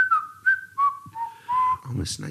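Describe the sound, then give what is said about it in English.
Someone whistles a bouncy, jaunty melody, the notes stepping between held tones in a lively rhythm, with a breathy rustle and a brief hiss near the end. “Whistling a jaunty tune.”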